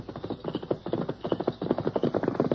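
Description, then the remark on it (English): Horse hooves clip-clop in a steady, brisk rhythm as Trench rides along a trail, a continuous run of hollow knocks at moderate volume with no voices over them. “You listen, you hear horse.”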